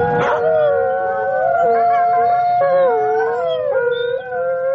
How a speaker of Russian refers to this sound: Воет бездомные собаки в писательском поселке Переделкино. Воет и бегают стаями по улице Гоголя, по улице Серафимовича, по улице Павленко.